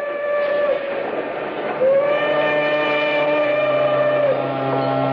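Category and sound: vehicle, steam train whistle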